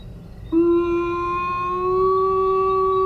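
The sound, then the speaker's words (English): A wolf pack at a kill howls in reply: a long, unbroken, low-pitched howl begins after a brief pause and holds steady, rising slightly in pitch, with fainter overtones above it and a low rumble of background noise. “Packs are usually quite responsive to kills, since they are such an important resource.”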